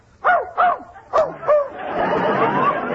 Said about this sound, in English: Just as I thought, you do have a dog in here. He's in that cot. Quiet, Fletcher. Quiet.